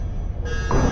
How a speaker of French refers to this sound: La porte s'est bloquée.